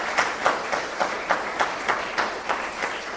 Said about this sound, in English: Thank you so much, by the way, for all the people who dressed up. Can we just give a round of applause to all our...